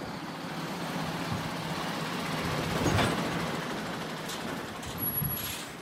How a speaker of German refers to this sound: Das Industriegebiet Neutraubling bei Regensburg. Im Minutentakt fahren die Lastwagen vor, warten, bis die Schranke hochgeht und fahren zu den langgestreckten weißen Lagerhallen.